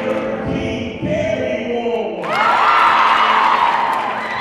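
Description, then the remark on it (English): A big indoor crowd at a high school volleyball match between the John Jay Jaguars and the Bronx Science Wolverines stomps in heavy, rumbling thuds, then erupts into loud cheering and whooping about halfway through, the roar swelling and filling the room. “The energy in the room is electric. Everyone is stomping and cheering.”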